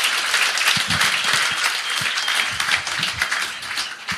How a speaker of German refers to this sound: Wo wir gerade dabei sind, nochmal eine Runde Applaus für den erstmaligen Moderator heute Abend, Simon Stäblein.